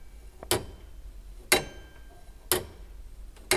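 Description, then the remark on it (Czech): A mechanical astronomical clock mechanism, driven by three weights and eight chains, ticks steadily: four crisp metallic ticks spaced evenly about a second apart over a faint low hum, with no one speaking. “Orloj budete uvádět do provozu jen při speciálních příležitostech?”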